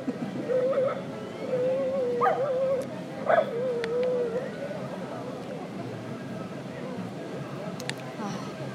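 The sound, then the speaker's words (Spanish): A small dog whines in a thin, wavering tone for a few seconds, broken by a couple of sharp yips, then falls quiet against a low background hum. “Te voy a echar a su perrito de la señora.”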